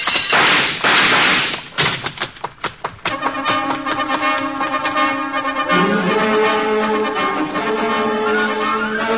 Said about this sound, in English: I managed to knock a lamp off his desk and beat it before he can find the range.